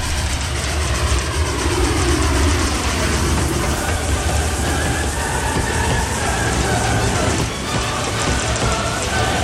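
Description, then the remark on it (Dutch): A loud passing train rumbles steadily, broad and continuous noise with a faint rhythmic clatter, overwhelming barely recognizable music, Beethoven's Ode to Joy, at the end scene of a film. “Maar dat wordt helemaal overvleugeld door de herrie van die voorbijrijdende trein.”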